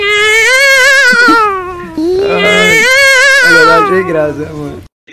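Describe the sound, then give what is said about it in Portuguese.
Loud, drawn-out meows from a cat: two long wailing cries that rise and fall in pitch, then a shorter wavering one before the sound cuts off. “E o gato começou”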